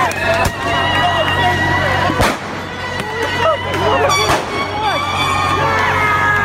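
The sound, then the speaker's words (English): Fireworks shot off at public buildings in Berkeley pop and bang several times, sharp and loud, over a dense roar of a shouting crowd outdoors, with whistles and yells carrying through the noise. “Last night, here's some of the people shooting off fireworks at public buildings last night at Berkeley.”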